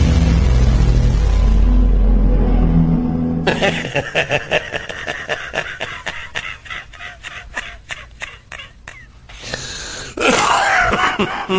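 After a few seconds of low, booming background sound, a man, a new staff member, coughs loudly in a long, rapid string of harsh bursts, ending with a heavier, rougher fit.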